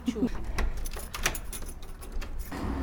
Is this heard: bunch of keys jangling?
yes